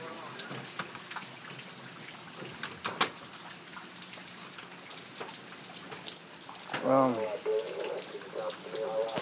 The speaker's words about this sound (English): Lots of rain, lots of rain.